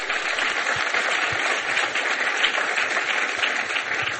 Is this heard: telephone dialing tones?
no